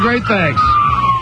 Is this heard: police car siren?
yes